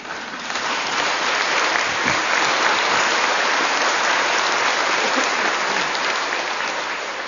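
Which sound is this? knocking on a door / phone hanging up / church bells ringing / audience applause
audience applause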